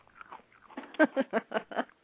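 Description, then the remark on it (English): Close, wet chewing right at the microphone: a few soft mouth sounds, then five loud, evenly spaced crunchy bites in quick rhythm, with no talking over them. “I think that you shouldn't eat unless we all have some food.”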